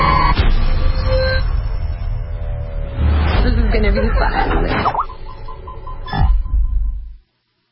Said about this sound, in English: The whole unfriended thing, you could hear the computer buzzing off a couple of times.